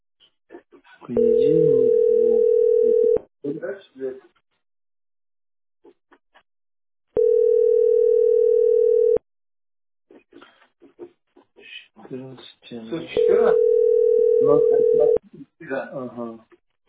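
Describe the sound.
A telephone line tone sounds three times, each a steady, loud hum lasting about two seconds at even intervals, with people talking in the gaps between tones.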